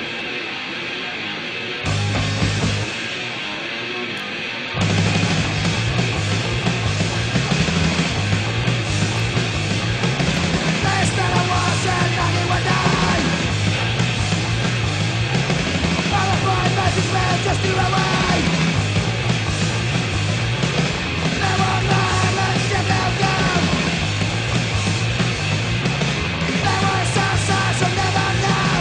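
A loud, fast punk rock song with distorted guitars, pounding drums and shouted vocals, opening with a brief rough intro before the full band crashes in and drives on relentlessly.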